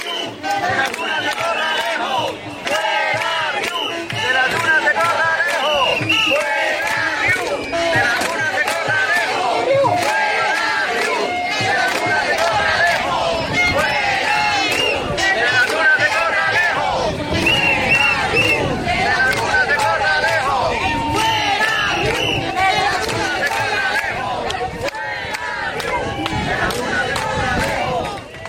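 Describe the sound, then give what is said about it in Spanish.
A large crowd of demonstrators from the 20O protest in Maspalomas shouts and chants in unison at the Hotel Oasis Maspalomas, a loud, steady roar of many voices lasting the whole stretch, with rhythmic bursts of yelling rising above the din. “Pues sí, gritaban fuera río de las dunas de Corralejo y lo hacían en el hotel Oasis Maspalomas”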